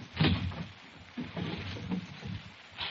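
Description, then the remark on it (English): A kitchen drawer slides open, followed by a few bursts of clattering and rustling as someone rummages through its contents looking for big paper bags, moderately loud with no voices. “Sound like you were taking the kitchen apart.”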